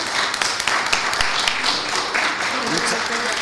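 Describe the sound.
A crowd breaks into steady, dense applause for a group of women cofradía members, many hands clapping at once in a continuous rattling wash that holds its loudness for the whole stretch, with a few voices faintly mixed underneath.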